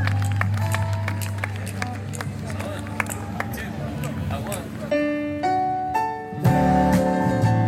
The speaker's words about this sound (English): So let's bring them in with a little polite golf clap, will we, ladies and gentlemen? Let's string them in. Bring them in.